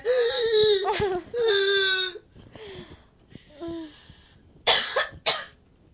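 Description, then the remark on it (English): A loud coughing fit: strained, raspy vocal heaves give way to a couple of sharp, harsh coughs near the end, with brief quieter gasps in between. “Smoker's cough. I don't smoke.”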